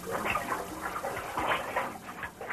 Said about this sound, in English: That was quite a hard commercial because they... 300 gallons of water would rush in like a second, like 1 second or 2 seconds.